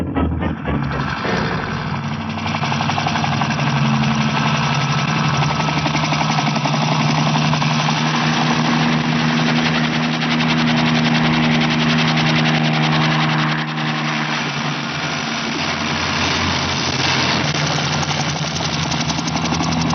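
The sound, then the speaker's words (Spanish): A loud, steady mechanical roar with a rapid rattling pulse, like a propeller aircraft engine running up to full power, fills the scene continuously with no voices, as the aircraft called the Albatros is ordered to take off. “Ordena que el albatros despegue.”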